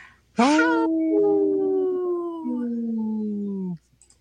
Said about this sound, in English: People that are watching this on Facebook Live or YouTube will always pull up a little wolf howling, and now, some days that makes me laugh more than others, but today it made me laugh.